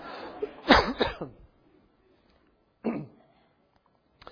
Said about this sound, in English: You can remember it's summer, right? Because my voice gets this way as summer allergies kick in. You'll bear with me as I hack a little bit. Yeah, you don't cough. You don't get to cough just because I'm coughing.